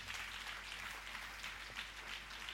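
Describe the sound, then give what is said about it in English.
An audience claps their hands for Jesus in a steady, dense burst of applause that holds evenly for a few seconds, a bright crackling wash of many palms with no voices over it. “Can you clap for Jesus?”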